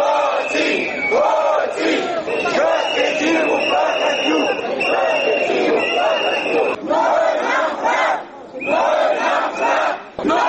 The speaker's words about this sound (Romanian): Zeci de activiști și simpatizanți ai partidului Platforma DA au pichetat președinția în semn de protest